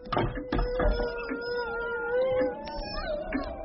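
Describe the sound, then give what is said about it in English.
Several wolves howl together in long, wavering, overlapping tones that hold steady throughout, with a few brief scuffing noises near the start and no talking. “Those are the voices of my brothers, darling. I love the company of wolves.”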